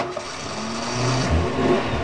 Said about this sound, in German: Wir steigen wieder ins Auto, fahren talaufwärts in Richtung des Ponte di Veia.